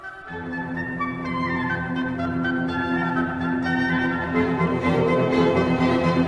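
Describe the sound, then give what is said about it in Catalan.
An orchestra plays the flowing first theme of a symphony's first movement, first presented by the violins in sustained lines, then taken up by the woodwinds, full and steady throughout with no voices. “Primer el tema el presenten els violins, però de seguida són els instruments de vent fusta els qui el reprenen.”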